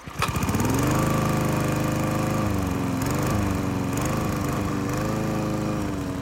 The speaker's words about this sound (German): Und schon saust das Taxi um die nächste Ecke.